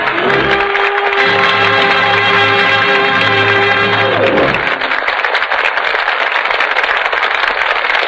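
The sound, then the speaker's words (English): Loud, dense studio audience applause for the performances of Pat O'Brien, Carol Landis and Donald Crisp fills the whole clip, at first mixed with a sustained closing chord of music, then continuing alone after the music cuts off. “I know, ladies and gentlemen, that you want to add your applause to that of the studio audience.”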